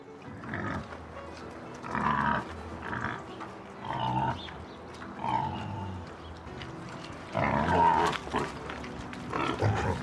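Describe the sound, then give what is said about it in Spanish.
Wild boars in Aranjuez grunt and snort as they greedily eat grain they have been fed, a steady run of rough, low, irregular grunts with a few higher squeals, swelling into a louder burst near the end. “Majestad, tal y como me ordenó, di de comer grano a los jabalíes, que se lo comieron con gran voracidad y gruñendo.”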